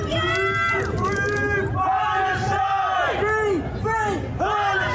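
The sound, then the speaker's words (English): A crowd in London cheers and shouts together, loud and steady, with rising and falling chant-like voices over a constant roar of many people throughout, as a man climbs Big Ben barefoot holding up a Palestinian flag. “Crowds cheered a man who climbed Big Ben barefoot holding up a Palestinian flag.”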